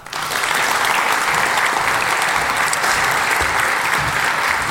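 An audience at a talk claps steadily to welcome the speaker, a dense, even wash of many hands that starts almost at once and holds at a loud, constant level throughout, with no voices over it.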